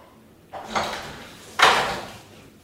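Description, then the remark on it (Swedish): A prison officer unlocks and pushes open the door of a prison visiting room: two brisk, rattling mechanical bursts about a second apart, each fading out quickly, with no voices. “Efter en kvarts väntan låser en kriminalvårdare upp dörren och släpper in Marek.”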